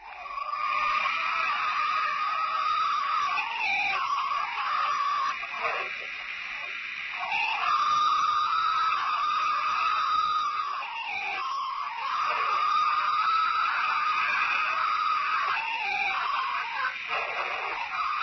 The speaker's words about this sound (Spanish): fue la primera gran grabación de un Bigfoot que se había conseguido en sonido